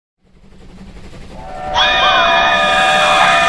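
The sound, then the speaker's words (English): A train sound effect in the audio drama Transcontinental Terror Express: a train rumbles in, building steadily, then a loud sustained horn or whistle blast cuts in and holds over the rolling noise of the cars. “Welcome aboard the Transcontinental Terror Express, a special run on the Mutual Audio Railroad Network.”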